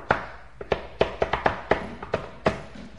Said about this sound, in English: This is the special knock.